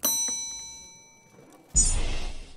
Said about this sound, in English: Now, see that bell? Give it a little tap.